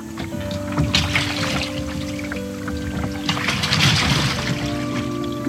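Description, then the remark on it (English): A goose boat idles on the water with a steady low engine hum, while splashes, bumps and sloshing suggest it easing up against a dock as it is docked. There is no talking. “And the boat is docked.”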